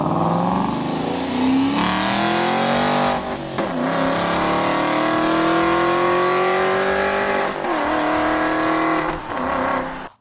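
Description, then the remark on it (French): A Valhalla supercar's mid-rear V8 engine, combined with two electric batteries for over 1000 horsepower, revs hard and loud, its pitch climbing steadily with two brief dips as it shifts gears, then cutting off abruptly at the end. No one speaks. “La Valhalla est la première supercar de la marque à arborer un V8 central arrière combiné à 2 batteries électriques qui offrent une puissance de plus de 1000 chevaux et une vitesse de pointe de 350 km/h dans un bruit assourdissant.”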